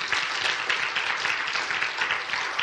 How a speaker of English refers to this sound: Can I get a clap, an amen?